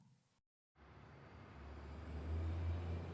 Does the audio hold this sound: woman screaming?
no